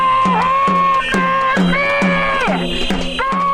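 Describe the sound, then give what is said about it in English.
A loud crowd of protesters at a goodbye Bovino noise demo outside a hotel in Minneapolis bangs drums and clatters pieces of wood in a steady, repeated beat, while sustained, wavering tones like horns or chanting ring over the constant din. “Agents in gas masks fired irritants towards protesters who'd gathered for what they called a goodbye Bovino noise demo, banging drums and clattering pieces of wood outside the hotel where they said the Border Patrol commander was staying.”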